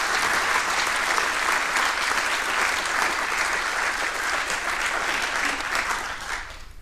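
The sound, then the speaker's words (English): A crowd at an event claps steadily and loudly for several seconds for the organizing team, a dense wash of many hands, before the applause begins to thin out at the very end. No one speaks. “So a big applause for both of them and for the rest of the Orga team.”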